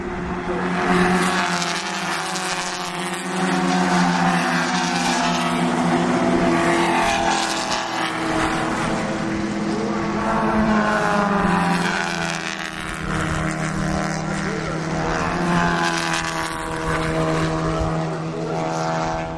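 Four race cars, out of about 25 on the track, roar past in quick succession, their engines droning loudly and nearly in sync, swelling and fading as they go by close at hand.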